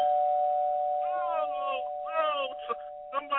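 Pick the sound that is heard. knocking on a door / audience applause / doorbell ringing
doorbell ringing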